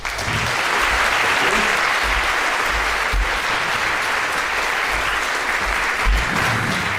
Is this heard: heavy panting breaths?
no